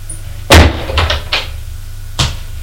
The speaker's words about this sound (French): La porte s'ouvre.